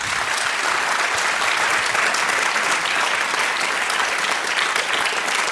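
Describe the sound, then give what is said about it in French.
An audience claps for the show's guests, a dense, even wash of many hands that stays loud and unbroken for several seconds with no voices over it. “Merci d'être avec nous, vous pouvez déjà les applaudir.”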